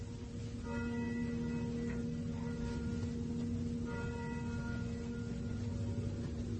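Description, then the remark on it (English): Bells ring with a steady, humming tone that hangs throughout, swelling with brighter struck overtones in two waves, one early and one midway. No one speaks. “Clock's slow. Bells are fast.”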